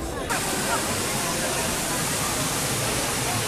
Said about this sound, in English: Well, I'm now over here near the waterfall on the backside of Bear Mountain.